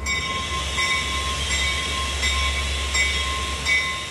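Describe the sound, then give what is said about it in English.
A Pullman passenger train on the route between Chicago and New Orleans rolls steadily along the rails with a heavy low rumble, a faint high tonal whine and periodic clacks of wheels over track joints roughly every three-quarters of a second. “I get to ride and sleep on a train and eat on a train.”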